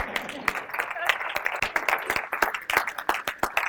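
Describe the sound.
An audience at Believer's Chapel claps steadily for several seconds, a dense patter of sharp, bright hand claps over a murmur of crowd voices, holding a fairly even loudness throughout.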